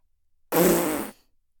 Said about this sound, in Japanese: おばさんのおならに負けちゃダメだぞ。出た出た、おっきいの出たわ。